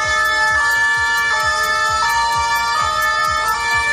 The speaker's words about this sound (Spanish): Y así sonaban las ambulancias que llegaban minutos después del atropello múltiple para atender a las víctimas.